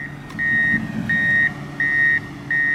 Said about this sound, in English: On Grand Isle, at the very tip of southern Louisiana, a National Guard bulldozer was clearing dunes of sand that Ida dropped on the main road.